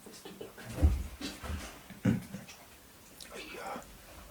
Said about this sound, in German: ach, mein Hund liegt hier unten am Schreibtisch, der liegt mir ein bisschen im Weg.